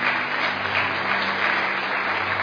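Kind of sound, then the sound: crowd, applause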